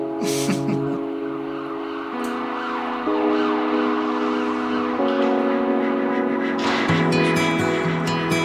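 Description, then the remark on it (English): Wailing siren tones hold steady pitches and step between them every second or two, loud and continuous throughout, with a busy background wash and no one talking. “Sirens instead.”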